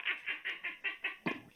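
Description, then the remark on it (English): A voice imitates the cartoon rooster Foghorn Leghorn, giving about seven quick, evenly spaced nasal clucks in a bouncy rhythm, fairly loud, with no other talking. “I'm like calling Foghorn Leghorn, though, you know? Yeah, like, Foghorn Leghorn.”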